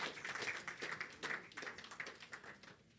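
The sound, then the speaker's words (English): An audience at a church service, risen to its feet, claps for the Lord Jesus, many hands blending into a dense, crackling wash of applause, with sharper individual claps popping out now and then. No voices stand out. “Clap for the Lord Jesus.”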